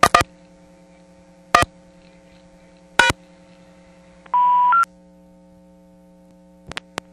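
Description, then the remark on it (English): A brief burst of steady DTMF telephone tones reading back a phone number from an ANAC line, over a low electrical hum, set between a few sharp clicks spaced a second or two apart. Nobody speaks. “Gives you a DTMF readback on the phone number.”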